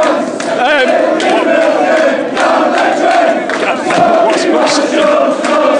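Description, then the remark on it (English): A dense, loud roar of United football fans screaming and shouting without letup, with individual wavering yells rising above the steady crowd noise throughout. “I think you just got loads of screaming and shouting, but never mind.”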